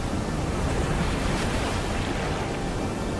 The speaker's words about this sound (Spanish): Sabiendo que a un lado estaba Escila y al otro el remolino Caribdis. Vimos como el agua giraba y giraba sin cesar, haciendo un ruido atronador al romper en las rocas.